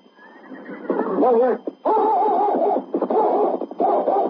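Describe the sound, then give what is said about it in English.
A big black horse, Rex, neighs loudly in several long, quavering whinnies, one after another with short breaks between them. No hoofbeats stand out clearly. “With King running alongside, Sergeant Preston rode out of town on his big black horse Rex.”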